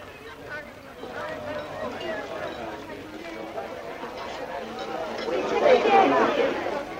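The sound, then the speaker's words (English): Busy cafe chatter: many overlapping voices blur into a steady, indistinct hubbub that swells a little louder toward the end, with no single word standing out. “Just be quiet, will you, and get inside that cafe.”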